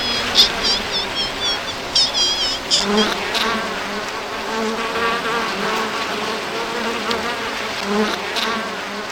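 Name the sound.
honeybees buzzing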